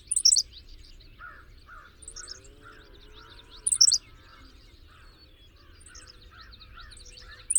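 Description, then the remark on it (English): A Henslow's sparrow, a meadow sparrow, gives its short, high, insect-like squeak of a song, like a cricket's chirp, three times at even intervals of a few seconds, over softer chirping from other birds and a low outdoor rumble. “The Henslow sparrow is another meadow sparrow with a high-pitched insect-like song, in this case sounding like the chirp of a cricket.”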